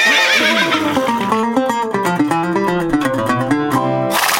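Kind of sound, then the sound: animal, horse neighing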